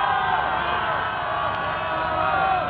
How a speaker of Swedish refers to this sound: Från vartenda kontor sträcker sig hundratals människor ut. Alla jublar och är glada. Budet om segern har kommit. Ingen tänker just nu på arbete på hundratals av Stockholms kontor.